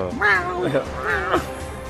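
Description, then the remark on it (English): A cat howls twice in quick succession, each drawn-out wail rising and falling in pitch, moderately loud over a faint background hum. “cat is howling right now.”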